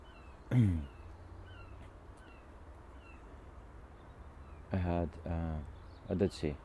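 seagulls calling overhead

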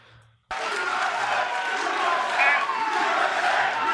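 crowd booing and shouting

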